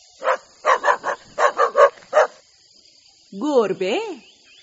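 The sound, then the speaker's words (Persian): A dog lets out about eight sharp barks in quick bunches, then after a short pause gives a couple of wavering, rising-and-falling whines, over a steady thin high-pitched buzz. “خیلی خیلی زرنگه، مهربون و باوفاست، گوشای تیزی داره، مراقب همه جاست.”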